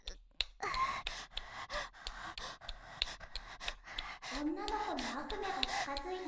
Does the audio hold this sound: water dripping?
no